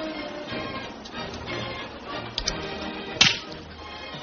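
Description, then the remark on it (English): A single sharp, loud slap by a woman across a man's face rings out, a crisp smack that stands out against a quiet, faintly noisy background. “Why does a woman usually slap a man?”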